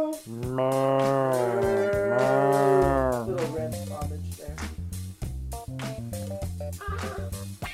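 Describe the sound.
Several people imitate cows with long, loud, drawn-out moos that rise and fall for about three seconds, then break into a run of shorter, choppier voiced sounds.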